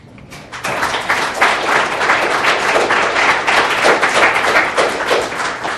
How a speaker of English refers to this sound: Thank you so much for that applause.